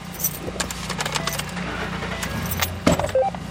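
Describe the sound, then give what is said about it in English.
Keys jangle in quick metallic clinks while a Cass County Sheriff's Department captain climbs into his truck to drive towards sites where protesters and police have clashed, a low engine hum rumbling underneath, and a louder clatter near the end as a door or seat shifts. “hops in his truck and drives towards several sites where protesters and police have clashed.”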